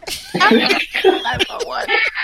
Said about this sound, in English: you're screaming. Oh my gosh.